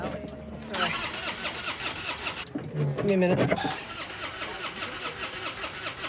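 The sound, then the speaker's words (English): A small car's engine cranks repeatedly without catching, a grinding starter whir that rises and falls, while a person mutters in frustration over it. “why won't she turn?”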